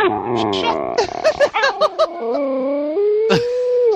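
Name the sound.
dog howling and whimpering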